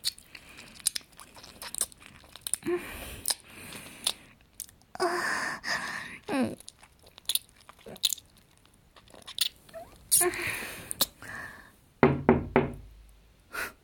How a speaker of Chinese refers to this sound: 等你敲门的时候